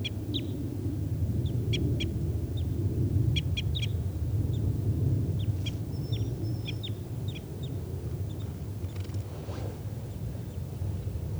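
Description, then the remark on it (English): A wild bird gives repeated short, high chirps in scattered bursts, some doubled or tripled, over a steady low rumble, with no one talking. “So recording tubes of that wild bird.”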